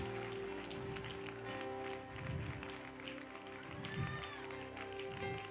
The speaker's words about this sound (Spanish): ¿Cuántos pueden aplaudir? Yo creía que este aplauso iba a ser mayor. Vamos, vamos.